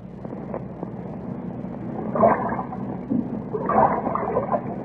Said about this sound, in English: That wind, where did it come from?